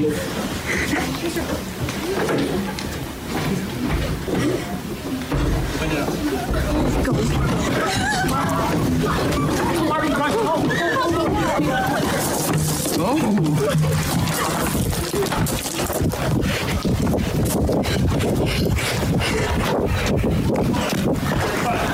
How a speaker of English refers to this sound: You are hearing students climbing out of a window. They see a police officer. It just hurts me hearing them scramble, trying to save their own lives.